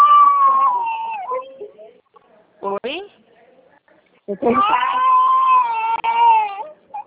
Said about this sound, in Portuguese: Eu tô em casa com o bebê, e aí você vai, possivelmente você vai ficar ouvindo choro.